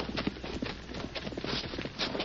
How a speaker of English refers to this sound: Listen a minute. Someone coming? Yeah, hear a horse.